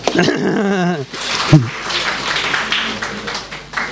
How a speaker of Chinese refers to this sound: 我哋太太系咪好劲啊？俾啲掌声佢啊！